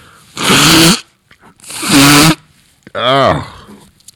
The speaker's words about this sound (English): Let me just blow it, baby. Hold on. We're friends enough that I can do this on. I don't have to stop this, do I, in order to blow my nose?